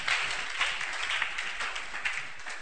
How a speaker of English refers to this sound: Are you clapping? Yeah.